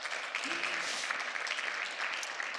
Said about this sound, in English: And if y'all aren't clapping for that, I don't know what could be clapped today.